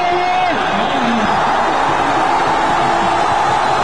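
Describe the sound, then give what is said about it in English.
A huge crowd of hundreds of thousands of anti-government protesters in Cairo's main square, Egypt, roars and chants 'the people have brought down the regime' after the president stepped down; a dense wall of voices with rising shouts and cheers over a steady, loud mass of sound. “They chanted the people have brought down the regime.”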